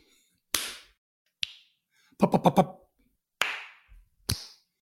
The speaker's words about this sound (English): But the clap and the snap are still the same for one and two.